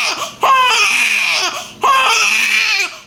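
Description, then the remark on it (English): A baby wails loudly in two long, high-pitched bursts separated by a brief catch of breath, each cry strained and rising before tapering off. No one speaks. “If you've ever been on a plane not wanting to hear a crying baby, you have options.”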